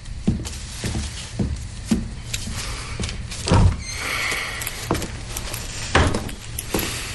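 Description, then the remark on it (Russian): A car door is unlatched and pulled open on a summer night so someone can sleep in the car, with a cluster of clicks, clunks and rattling thuds spread over several seconds and a heavier knock partway through. “Я в машине лягу. Сейчас, летом, мне там будет удобнее. Она закрыта? Я открою.”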